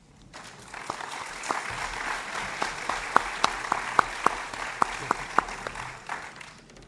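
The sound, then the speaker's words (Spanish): Welcoming applause from an audience for a speaker being introduced rises quickly and holds steady for several seconds, a dense wash of clapping with a few sharp, louder individual claps standing out near the end. No one speaks. “darle un aplauso de bienvenida.”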